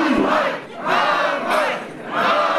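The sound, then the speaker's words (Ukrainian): A crowd of about 200 protesters at a rally in Poltava, Ukraine, chants in unison. Loud rhythmic shouted phrases rise and fall in roughly three surges, with many voices blending into a dense roar and no single speaker standing out. “Скандували вони.”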